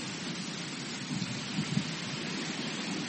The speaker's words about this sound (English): Look at the wind. How windy it is. Look at the waves of the lake. Sudden wind, eastern wind, coming to the Lake of Galilee.